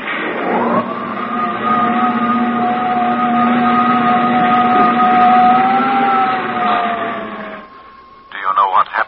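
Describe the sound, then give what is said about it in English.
A steady, loud electronic drone of spaceship jet dynamos, layered tones swelling up in pitch at the start, then holding an even hum for several seconds before cutting off as a voice begins. “Those jet dynamos you see before you exist. Jet dynamos driven by the harnessed power of 1,000 suns. Listen, Earthman. Listen to them.”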